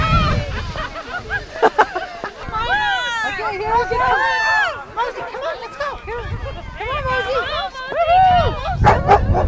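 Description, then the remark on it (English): A pack of sled dogs at a kids' sled dog race and dog pull barks and yips excitedly in a dense, overlapping chorus, loud, with a murmur of crowd voices and low rumbling noise underneath. “kids' sled dog races and the human sled dog pull put a twist on a conventional winter sport”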